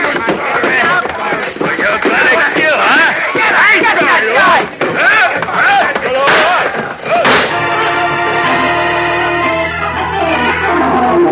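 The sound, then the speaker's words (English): A chaotic brawl in a room, with loud crashes as a giant man smashes another to the floor with a chair, shouting voices and sharp bang-like gunshots going wildly into the walls, piling over each other for several seconds, then cutting into a sustained, swelling orchestral chord. “Like a man gone berserk, the giant Boris first smashes Leo to the floor with a chair, and the gunman's shots go wildly into the walls.”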